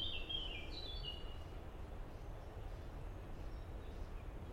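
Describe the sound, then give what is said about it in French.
A common blackbird sings a brief, soft, fluty phrase at the start in the morning, before the sun has reached the trees. It then falls quiet over a steady low rumble of outdoor background noise. “Sauf qu'en fait, c'est un merle, à la réflexion.”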